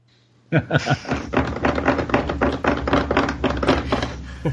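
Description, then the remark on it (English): Loud, rapid keyboard typing begins abruptly after a brief quiet moment, a dense stream of sharp clacks and thunks hammered out in an uneven, continuous rhythm until the end. “Can you got a louder keyboard”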